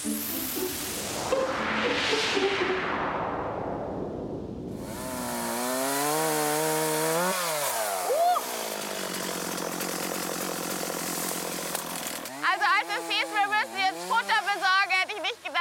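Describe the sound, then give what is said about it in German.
A chainsaw roars, revving high and dropping in pitch as it bites through wood, then stutters in rapid pulsing revs as a small birch tree is cut down in a forest. “Dazu sind wir in den Wald gefahren.”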